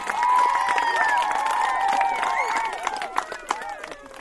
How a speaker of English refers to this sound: We give a round of applause to your parents and friends of the school who have given such fantastic support to you.